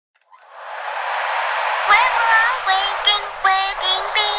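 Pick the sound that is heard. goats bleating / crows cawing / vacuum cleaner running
vacuum cleaner running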